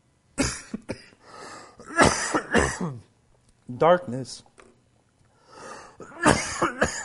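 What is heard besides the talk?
repeated coughing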